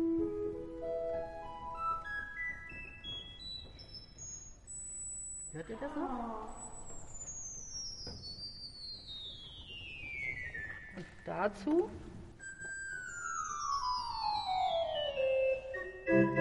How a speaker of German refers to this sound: Da hört man dann Zusammenklang. Diese Pfeife, die einen ganz hohen Ton abgibt, ist besonders klein und die ist vielleicht so 1-2 Zentimeter.